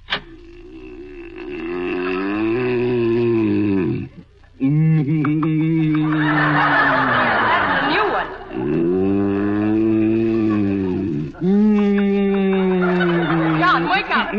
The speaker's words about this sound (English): Dr. Hersey just left the house. He came over to see what he could do about your snoring. I was going out of my mind.